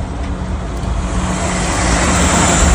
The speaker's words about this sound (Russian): Проезжают мимо спасательные пожарные автомобили.